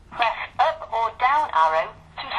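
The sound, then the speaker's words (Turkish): An old-fashioned bell ringtone plays on a phone receiving an incoming call, in a series of short, trilling bursts from a small, tinny phone speaker, moderately loud, with brief gaps between rings. “Ringtone. Şimdi bak hocam.”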